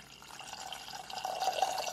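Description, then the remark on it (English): A cup of water pours steadily into a pot holding a cup of granulated sugar to make simple syrup, a continuous splashing stream lasting a couple of seconds that grows slightly louder and fuller toward the end, with no talking. “So a cup of granulated sugar goes into a pot. And then we have our water.”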